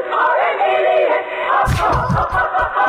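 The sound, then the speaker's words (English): A loud crowd cheers and roars continuously, a dense wall of voices, with heavy thumping bursts cutting in during the second half. “Cheer.”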